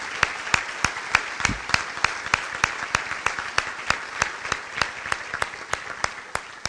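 An audience applauds for several seconds, a dense wash of clapping with a few sharp, evenly spaced claps cutting through in a steady rhythm. No one speaks.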